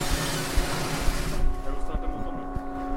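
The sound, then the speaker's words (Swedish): A boat engine drones steadily at a boat wash where a large sailboat is being washed, a low humming rumble with a broad wash of splashing noise that drops away halfway through, leaving the engine's even hum alone. “Här är lite motorljud och så.”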